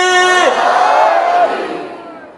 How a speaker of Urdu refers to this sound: رات کے اس پہر میں آ کر اگر تمہیں اس قوم کا جوش و جذبہ دیکھنا ہے تو اس نعرے کو دیکھ لو, نعرہ حیدری.